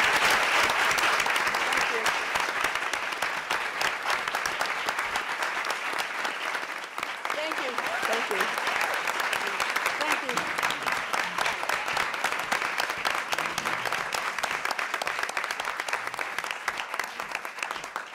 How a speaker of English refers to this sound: Please give a warm round of applause to a true champion on and off the court, Billy Jean King.